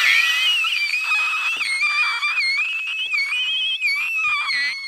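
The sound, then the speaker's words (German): A person whistles a shrill, sustained high tone that wavers slightly in pitch, imitating a boiling teakettle, loud and unbroken for about five seconds with no talking. “Ja, ich habe meistens gar kein Loch, ich pfeife halt wie so eine Teekanne, wenn das Wasser kocht.”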